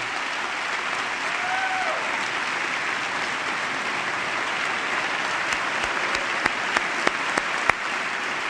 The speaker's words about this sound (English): And that eighth grader is there in the chamber sitting right next to the First Lady, Michelle Obama, who is giving her a hug. She's standing to receive the applause of the chamber.